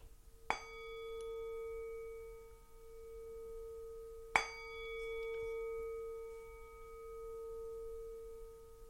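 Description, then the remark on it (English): A singing bowl is struck twice during a guided relaxation, each strike blooming into a steady shimmering ring with layered overtones that slowly fades, with no talking. “As the sound of the singing bowl fades away, become aware of your body, either lying or sitting on the floor.”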